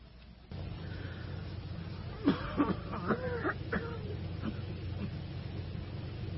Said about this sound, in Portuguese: Essa minha tosse de cachorro.